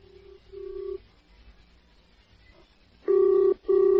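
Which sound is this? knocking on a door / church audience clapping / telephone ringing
telephone ringing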